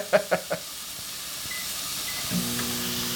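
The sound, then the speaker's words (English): Very fatty pork belly sizzling in a dry pan with no oil, salt or seasoning: a steady, soft hiss that opens with three quick pops of fat, and a low, even hum joins in toward the end. “You're just very calmly cooking this pork belly in the pan. There's no oil in the pan.”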